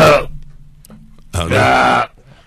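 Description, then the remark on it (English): A man clears his throat into a microphone that has been turned on: a short rough burst, a brief pause, then a longer, louder gravelly rasp. No speech. “Is that clearing his throat?”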